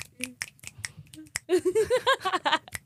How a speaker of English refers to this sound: Yeah, clap, clap, clap.